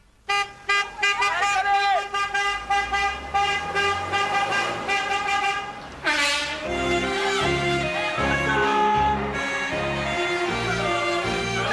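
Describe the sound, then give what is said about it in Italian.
Car horns honk over and over in a dense, overlapping chorus, loud, some in short rhythmic toots and others held long, with a narrating voice running underneath, from an endless convoy of Calais fans' cars heading to Paris and the Stade de France. “Cinque treni speciali, 12 pullman, un corteo infinito di macchine.”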